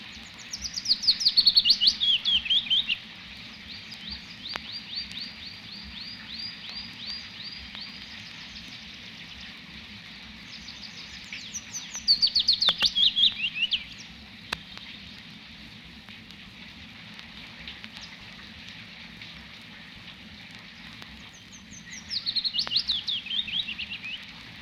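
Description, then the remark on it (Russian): Three soft, sweetly descending phrases of willow warbler song, spaced roughly ten seconds apart, drift over a steady, even hiss of falling rain. “Да это неугомонная пеночка-весничка. Она не боится дождя и, как ни в чем не бывало, тихо поет, будто играет на дудочке.”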